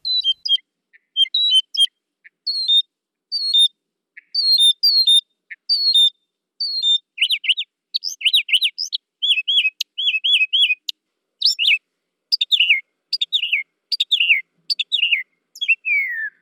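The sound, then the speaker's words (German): A mockingbird sings alone, cycling through varied bright phrases: short chirps first, then rapid repeated trills and descending whistled notes, each motif repeated several times before switching. “aber hören wir doch erstmal rein in den Gesang der Spottdrossel.”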